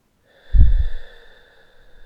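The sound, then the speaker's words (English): A single deep, breathy exhale, part of gently taking deep breaths in and out, swelling and then fading over about a second, with a faint steady drone humming underneath. “Find yourself somewhere comfortable, closing your eyes and begin to take some deep breaths in and out gently.”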